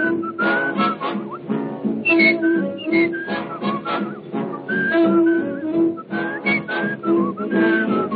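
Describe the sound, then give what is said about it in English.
Someone whistles a bright, bouncy melody in clear sustained notes, riding over a full big-band accompaniment that plays steadily underneath throughout. “What you doing, whistling just to scare the ghosts away?”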